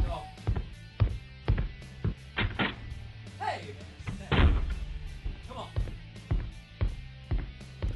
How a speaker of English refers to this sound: All right, let me get the door. Let this cocksucker in.